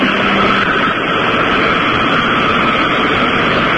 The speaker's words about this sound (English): He's blasting the grease in the sewer from the Chinese restaurant.